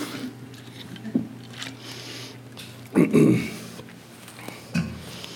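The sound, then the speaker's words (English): Someone drinks water: a few soft gulps and wet mouth sounds, with a louder cluster of swallows in the middle, over a steady low background hum. “I need another drink of water.”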